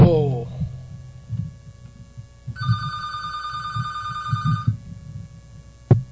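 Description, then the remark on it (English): A telephone rings once in a single sustained two-second burst of bright, buzzy ringing, with a low murmur of indistinct voices underneath and a short click near the end. “Well, I did it again. I forgot to turn the phone off.”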